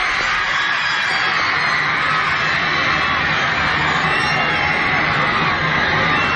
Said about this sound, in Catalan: Però què són aquests crits? El que estem sentint són els crits esfermats d'una massa d'adolescents en zel, perquè el 7 de febrer de 1964, a l'aeroport internacional John Fitzgerald Kennedy, a Queens,